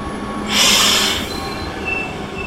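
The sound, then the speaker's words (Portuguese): A train rolls along the rails of the newly opened Beira Baixa line between Guarda and Castelo Branco in Portugal, with a burst of hissing noise in the first second followed by a steady mechanical rumble and faint high squeals from the wheels. “depois de percorrermos a recém-aberta linha da Beira Baixa, entre a Guarda e a cidade do distrito de Castelo Branco, que fica numa das encostas da Serra da Estrela.”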